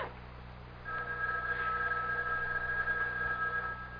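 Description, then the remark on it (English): A house telephone, not a private line, rings with a call from the lobby downstairs, once in a steady, sustained electronic tone lasting about three seconds, heard alone against a low background hum with no voices. “It was the house phone.”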